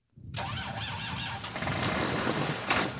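Dennis Jones's tractor on a corn farm in Bath, South Dakota, cranks over several tries in the cold and catches, settling into a loud, rough, steady rumble, with a brief higher rattle near the end. No one speaks.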